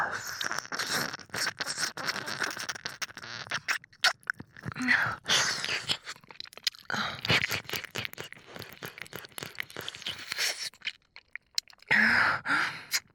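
Wet ear licking and mouth sounds, a steady stream of smacks and sticky clicks with brief pauses and a few soft breaths, with no talking.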